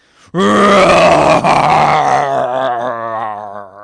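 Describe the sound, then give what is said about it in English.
A child's loud, sustained, guttural growl imitating an angry animal, resonating in the chest, one continuous rumble lasting several seconds, alone before slowly tapering off, made in a room to scare a younger brother. “I growled again, now loud enough to fill the room with the angry guttural sound resonating in my chest.”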